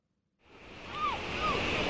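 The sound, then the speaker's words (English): Ocean waves wash onto a beach, a steady broad rush of surf that swells in after a brief silence and grows louder, with two short high cries faintly above it. “The beach. At last.”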